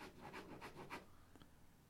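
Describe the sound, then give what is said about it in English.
A pen scribbles on paper in a quick run of scratchy back-and-forth strokes, quiet, then trails off into a couple of lighter marks, as someone scribbles things out while reading them out. No one speaks. “I've done this on paper today, so you might hear me scribbling things out as I read them out.”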